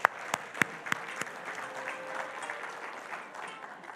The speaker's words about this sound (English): Let's give a round of applause for our amazing buildings.